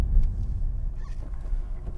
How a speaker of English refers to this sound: The clutch is really nice. The transmission feels good. The synchros are much better.